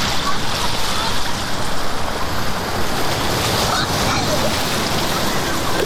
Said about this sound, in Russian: Мне так нравится, что вода поднимается сюда. Как будто она злится. Она поднимается там, а потом попадает сюда. Вода холодная.